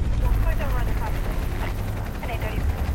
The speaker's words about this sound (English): The dog handlers are spread out just ahead of the men with poles, a chopper circling above them.